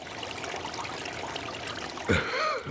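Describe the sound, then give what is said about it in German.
A babbling brook flows steadily, a soft continuous trickle and burble of water at moderate level, before a brief, louder voice-like sound cuts in over it near the end. “Sie machten sich auf den Weg und kamen an den Bach.”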